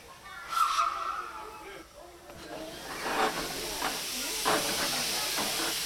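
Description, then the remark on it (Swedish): A steam train slowly jerking into motion, leaving Sankt Olofs station: loud, steady hissing of steam with irregular heavy chuffs building up, and a brief high tone near the start. “Där rycker tåget så sakta ligger igång utifrån Sankt Olofs station.”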